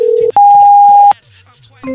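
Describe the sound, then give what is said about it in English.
A loud, steady electronic beep holds a single high pitch for under a second, preceded by a shorter lower tone and followed by quieter background hum and a faint final chirp. “Oh, damn it, that beep is loud.”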